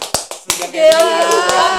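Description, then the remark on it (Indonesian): A few sharp, quick hand claps ring out at a steady pace, then a sustained voice rises and carries over a couple more scattered claps. “Habis ada tepuk tangan di sini.”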